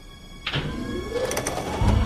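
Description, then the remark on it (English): A winch motor overhead, above a truck trailer, kicks in with a clunk, then runs with a steady mechanical whine that slowly climbs in pitch over a low rumble, growing heavier toward the end. “When they hear a winch overhead, they duck into a netted storage container in the back of the trailer.”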